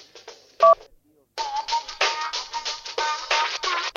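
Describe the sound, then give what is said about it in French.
A single short, loud telephone keypad tone beeps once as key 1 is pressed in a phone menu's language selection, a brief pure electronic chirp set between stretches of someone talking. “For the English language, appuyez on the touch 1 on the clavier of the telephone.”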